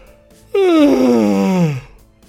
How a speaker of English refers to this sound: Excuse that yawn, that seemed to undercut the severity of the story I'm trying to recall to you. Do apologise.